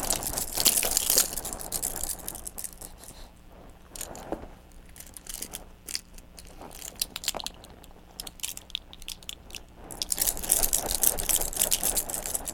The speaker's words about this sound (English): Okay, you shake the spoons, I'll shake the keys. Shake it! There's the keys.